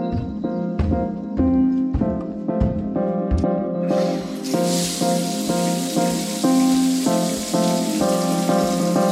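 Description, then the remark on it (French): Shower water bursts on partway through and keeps running as a steady, loud hissing spray, layered over an ongoing melodic music bed with rhythmic plucked notes. “qui l'assaillent lors de sa toilette. Sous la douche, voyage en Amérique cette semaine.”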